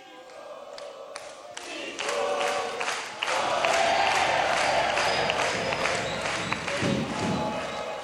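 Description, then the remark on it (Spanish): An audience claps and cheers for Pipo Gorosito, the noise swelling after a couple of seconds into sustained, dense applause with scattered shouts, fairly loud, with a few sharp claps standing out at the start. “Ahora que son de Tigre, aplauden todos, ¿eh?”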